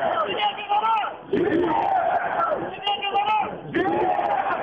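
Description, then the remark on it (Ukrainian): A large crowd shouts in unison at an opposition street rally on a square with red-white flags and candidates' party flags, founding a new people's movement for elections without Alexander Lukashenko: loud rhythmic chanting in repeated bursts with brief dips between them, many voices merging into a dense roar. “Ви чуєте голос площі.”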